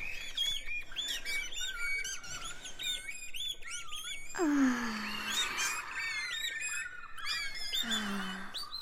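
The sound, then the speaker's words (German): Many birds chirp, whistle and sing at once in a dense, overlapping chorus near a garbage shed, with a couple of louder squawking calls cutting through, like a busy aviary. “Es klingt hier nämlich wie in einem Vogelpark.”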